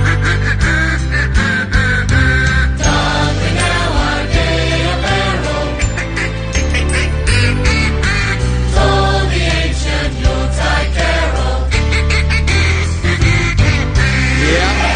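Duck quacks arranged into a Christmas carol melody, played loud and continuous over a full musical backing with steady rhythm and bass, no one talking.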